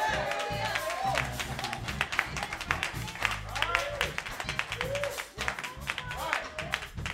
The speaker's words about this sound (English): Now let's give the Lord a hand clap.